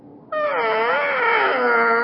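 New boots give one long, loud squeak, a whining tone that wavers slightly in pitch for nearly two seconds, with no talking over it.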